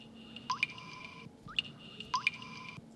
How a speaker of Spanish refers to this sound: Qué lindo. ¿No le da paz? Sí, es muy linda el sonido. Pero cuando dejamos una canilla que está goteando, que es ese sonido, tenemos que cerrarla, ¿no? Exactamente, o arreglarla, por supuesto.